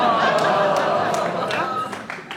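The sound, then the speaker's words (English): An audience reacts to a pun with a mix of low murmuring groans and scattered clapping, a dense wash of voices and hands that gradually fades over a couple of seconds. “You can't groan and clap at the same time.”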